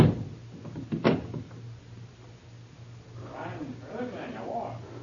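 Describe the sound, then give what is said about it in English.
A door is locked: a few small metallic clicks and rattles, then one sharp louder snap, followed by quiet and muffled voices talking in the background. “I lock the door.”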